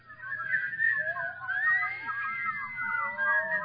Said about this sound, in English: She was a polyphonic whistler, as you can hear.